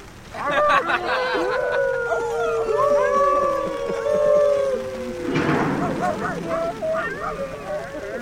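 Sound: howling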